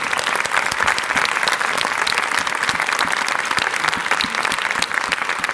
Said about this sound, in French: Je passe tout de suite la parole à celui qui nous a tous dirigés dans ce film. C'est son idée. Merci d'applaudir le réalisateur, Claude Zidi Jr.